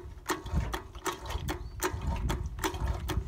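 A simple hand water pump is worked in quick, steady strokes, each producing a sharp clicking squirt through a little valve, about eight in a row, over a low rumbling background; the tank it feeds is already full of water.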